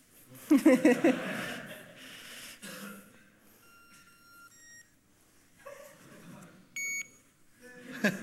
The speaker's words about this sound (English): Yeah, that's what HID calls beep and blink, what they particularly love. Easy installation, you just put up the reader and it will beep and blink if any of the cards that HID sells is put in front of it.